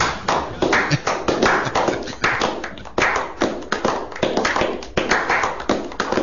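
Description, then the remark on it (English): A crowd applauds steadily for several seconds, a dense wash of many hands clapping at a fairly even loudness with no voices standing out. “We do not make any noise over the applause.”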